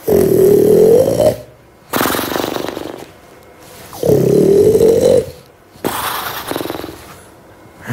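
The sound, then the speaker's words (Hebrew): A person imitates the snoring of people in a shelter: two long, loud, rumbling snore breaths alternating with two rougher, rattling, short jumpy snores, each lasting about a second and a half with short pauses between, alone. “יש נחירות קצרות וקופצניות. זה הולך ככה. מהצד השני, יש נחירות גדולות וארוכות.”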